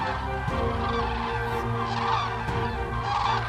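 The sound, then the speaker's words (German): A dense chorus of loud, honking trumpeting calls from a large flock of cranes, overlapping continuously with no pauses, in the Rostock Heath region of northern Germany, where the cranes arrive in huge flocks from the south in spring. “Im Frühling reisen die Juwelen der Küste, wie man hier die Kraniche nennt, in riesigen Schwärmen aus dem Süden an, um in unzugänglichen Erlenbrüchen zu brüten.”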